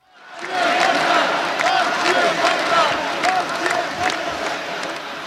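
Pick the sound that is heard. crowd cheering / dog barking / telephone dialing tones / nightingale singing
crowd cheering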